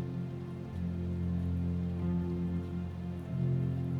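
Steady rain patters softly and continuously beneath a loud, sustained low humming drone, with no voices present.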